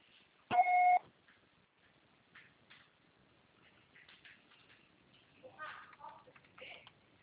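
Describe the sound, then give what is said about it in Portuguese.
A single steady electronic beep from a voicemail system, the signal after which a message is recorded, loud and clear, lasting about half a second, followed by faint murmuring and soft background noises. “Seu acessório será tarifado após o sinal.”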